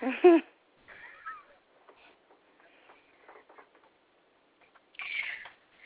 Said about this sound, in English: Right. Well, he meows at other birds and doesn't understand why he doesn't have friends.